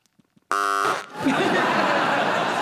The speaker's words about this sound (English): you buzzed? Hesitation.